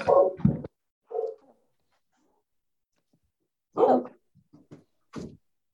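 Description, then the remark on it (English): A dog barks in a room in a few short, irregular bursts: a quick double bark, a softer one, then a pause before two or three more, with no one talking. “And of course, all three dogs show up in the room as soon as you hit record.”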